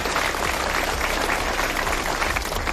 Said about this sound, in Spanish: Aplausos, sí, después de esos 20 minutos de silencio a las puertas del consistorio en Sigüeiro.